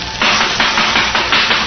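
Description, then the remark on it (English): A vacuum cleaner runs behind a door inside a home, used by a young girl cleaning up. It gives a steady, loud, hissing roar that swells slightly in regular surges about every half second, with no voices over it. “There's a vacuum cleaner going in there.”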